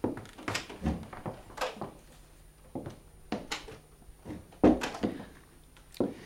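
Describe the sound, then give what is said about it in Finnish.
A door on the left opens with a series of sharp clunks and knocks, the loudest coming near the end, with no one speaking. “Olkaa hyvä, tässä tämä ovi vasemmalla.”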